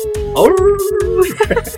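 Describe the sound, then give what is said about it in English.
A woman's voice imitates a dog's howl, rising, holding a steady wavering pitch for about a second, then sliding down, with regular bursts of noise in the background. “She's howling, folks. Look out.”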